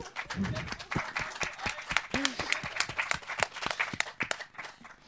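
A small group claps steadily and warmly for about five seconds for a special guest, the sharp, irregular hand claps fairly loud, with a couple of brief vocal sounds and cheers mixed in.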